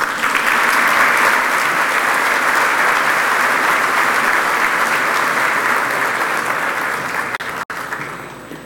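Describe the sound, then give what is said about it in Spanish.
Loud, sustained audience applause for Salvadoran President Nayib Bukele as he is introduced to speak at an ANEP event, a dense wash of many hands clapping that holds steady for several seconds before thinning out at the end. “Para él, un caluroso aplauso, por favor.”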